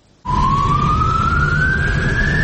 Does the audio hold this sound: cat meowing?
no